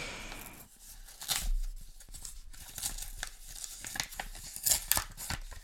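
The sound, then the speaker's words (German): Paper crackles and crinkles as an owl-post fan letter on very nice stationery is unfolded, a run of dry, bright rustles and sharp crisp bursts with no talking. “Also, ich habe jetzt hier noch eine Eulenpost. Das ist übrigens sehr schönes Briefpapier.”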